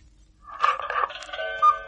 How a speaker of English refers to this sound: He decides to fool around with a tape recorder. He turns it on in time to catch the cuckoo clock striking 10.